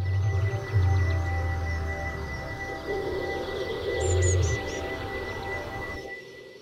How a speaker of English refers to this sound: Or it got there on the pigeon, and you can hear more about the pigeon and the other chosen birds, as well as more of DJ Lychee's bird soundscapes, which you also heard there